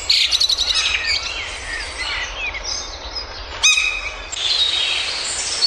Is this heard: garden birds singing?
yes